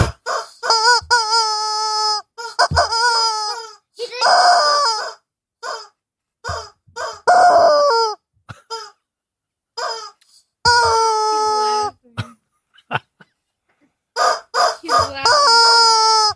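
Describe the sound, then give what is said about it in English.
A chicken named George crows loudly, several drawn-out, strained calls with short clucks and pauses between them and no talking. “Bob K's chicken's name is George.”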